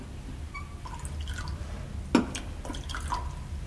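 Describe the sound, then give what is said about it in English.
The last of a drink, just about enough to wet the glass, trickles and drips into a glass, with a single sharp clink partway through, all fairly quiet over a low steady hum. “We've just about got enough left to wet the glass.”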